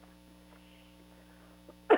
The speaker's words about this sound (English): I'm sorry, I'm coughing.